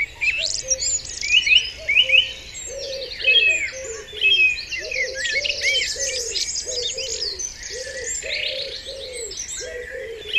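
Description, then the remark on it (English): A dense dawn chorus of many birds singing at once, bright overlapping chirps and trills filling the air, with a dove's low repeated cooing running steadily underneath. No voices. “Will the birds let us down this year? They never, ever have. Come what may, they always sing.”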